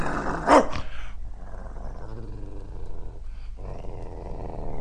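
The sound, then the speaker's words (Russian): A dog, Bim, growls low and steadily for several seconds at a doctor in a white coat approaching its owner's bed, opening with a short, louder snarling burst. The growl stays rumbling, with no voices. “Ну и собака. Мужчина отпрянул, женщины, пришедшие с ним, выскочили в прихожую.”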